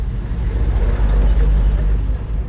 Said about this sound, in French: Nous sommes dans la voiture du père Gardi Maisonneuve, directeur de l'organisation humanitaire Carlevec. Il nous conduit à Solino, où il coordonne un programme du gouvernement haïtien destiné à inciter les habitants à retourner chez eux.